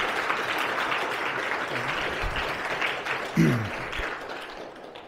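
A crowd gives a round of applause to thank a speaker who has just shared her thoughts: a dense wash of many hands clapping steadily at an even loudness for several seconds, with a brief louder burst midway before it begins to taper off.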